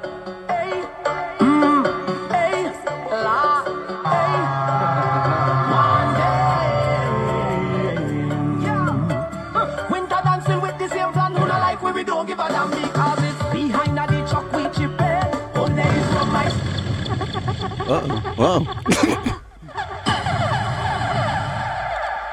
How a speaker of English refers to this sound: Uh-oh. It's a Donkey Kong video game.